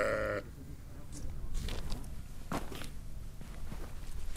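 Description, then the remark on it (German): About 20 sheep in a pen in the hills beside a few tents: one short bleat cuts off at the start, followed by steady shuffling, rustling and hoof-like knocks from the flock. No one speaks. “Hier stehen ein paar Zelte, in einem Verhau sind etwa 20 Schafe.”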